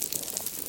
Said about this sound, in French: Les petits crépitements en fond sonore, c'est surtout les crevettes pistolées. Et puis on entend des petits pops, des grognements, des gargouillis. Et là, c'est les poissons, des bruits qu'ils font en mangeant, en se battant ou en s'accouplant.